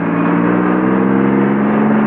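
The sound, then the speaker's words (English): A truck engine drones steadily as a man drives the truck forward with a passenger aboard, a continuous low hum with no change in pace and no voices. “He drives it forward, past Jake's truck.”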